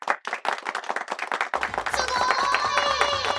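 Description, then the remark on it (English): A round of applause: a burst of fast, dense hand clapping that swells into a steadier, fuller roar, with shrill whistle-like tones and crowd noise rising in the second half. “Are you going to cut some like round of applause like sound effects in as well? We are now.”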